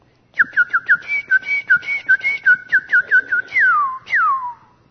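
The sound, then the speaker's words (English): A person whistles an imitation of a cardinal: a quick run of about a dozen short, bright chirps in steady rhythm, ending with two longer whistles that slide downward in pitch. “But see, then you get down towards like that cardinal.”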